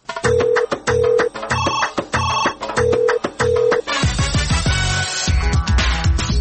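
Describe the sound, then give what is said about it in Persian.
The Radio Azadi message-line answering machine rings in a quick electronic pattern of repeated tonal bursts, loud, then gives way to a dense burst of music. No one speaks. “تلفن پیامگیر رادیو آزادی است. پیام هایتان را ثبت کنید.”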